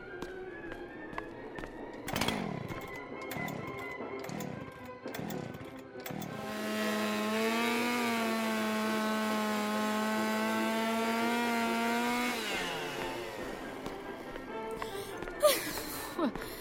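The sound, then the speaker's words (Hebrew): A power saw sputters with a few short, rhythmic revs, then holds a steady, loud buzzing whine for about six seconds before winding down and trailing off into a few clunks, as a body is cut into pieces in a bathtub. “עכשיו זה רק עניין של חיתוך לחלקים נוחים.”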